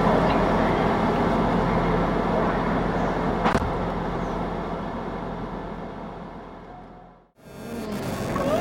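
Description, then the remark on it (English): Steady, dense rumble of a moving TransPennine Express passenger train to Manchester Piccadilly heard from inside the carriage, with a sharp clack midway and a brief drop in the noise near the end before it resumes. “Welcome to this first Transpennine Express service to Manchester Piccadilly.”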